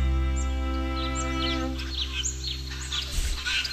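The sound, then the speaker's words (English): A titmouse calls repeatedly in quick, high chirps and whistles over a steady low electrical hum with no talking. “Titmouse.”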